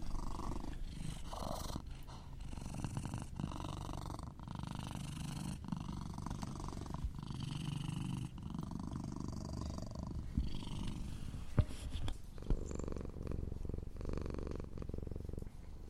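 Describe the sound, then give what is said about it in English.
Cats at the Pretty Paw Lounge purring in a steady, continuous rumble, loud and sustained throughout, with a few brief rustles and soft clicks mixed in and no talking. “I hope those meows and purrs provided some levity to your day.”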